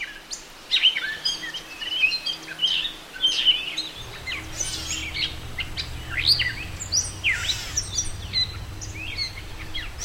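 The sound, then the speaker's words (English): A catbird's rambling song of varied squeaky chirps, whistles and harsh notes, delivered in quick irregular phrases with brief pauses, moderately loud over a faint steady hum with no voices. “Listen for their delightful rambling song from wet thickets or from your front rhododendron, and don't forget their cat-like meowing call.”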